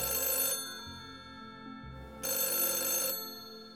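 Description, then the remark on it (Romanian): A telephone rings twice with a bright, buzzing bell tone, each burst lasting about half a second with a pause between. Fairly loud, with no voices. “Sunetul telefonului i-a trezit din concentrare.”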